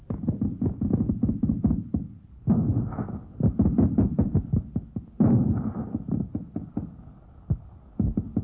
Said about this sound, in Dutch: Bijna elke ochtend, vaak om 7 uur al, worden hier kleedjes en kleden geklopt. Elke huisvrouw die zichzelf ook maar een beetje respecteert, doet dat. Natuurlijk, in elk huis staat een stofzuiger, maar nochtans, kleedjes kloppen, dat moet.